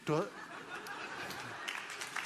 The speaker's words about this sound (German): Das Publikum applaudiert.